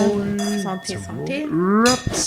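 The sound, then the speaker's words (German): Glasses clink together in a farewell toast, leaving a faint lingering ring that carries under overlapping voices. “Machen wir einen Abschiedsprost und verabschieden uns.”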